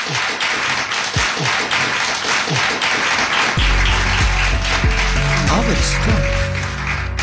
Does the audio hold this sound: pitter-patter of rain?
no